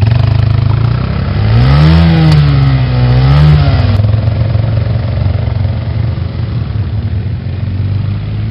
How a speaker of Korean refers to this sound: 새로 산 오토바이를 타고 초대소 내의 산길을 자주 오르락내리락 했다. 그 거리만 해도 왕복 50km나 되었다.